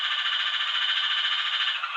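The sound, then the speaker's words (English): A Spalding's rocket frog calls in a fast, unbroken run of clucking pulses that blur into a steady, high, buzzy drone, holding loud and even for the whole two seconds with no voices. “Its calls have been described as turbocharged chicken clucks.”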